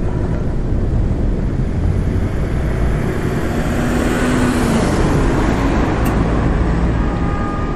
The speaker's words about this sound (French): Première escale, la ville. Les voitures, la foule compacte qui se masse derrière des artères bondées, les briefs de conversation qui montent jusqu'aux derniers étages des immeubles de verre